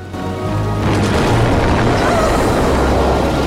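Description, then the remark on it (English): A loud explosion booms out at a burning house, then gives way to a heavy, continuous roaring rumble like a big fire, with deep low-end weight throughout and no voices. “An explosion causes Mike to flinch and Marple to cover her face.”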